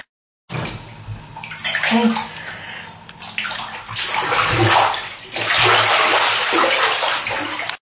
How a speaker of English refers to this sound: And then hold your nose. Put your head under the water.